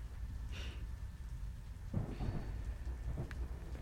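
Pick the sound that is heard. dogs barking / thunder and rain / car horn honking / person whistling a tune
thunder and rain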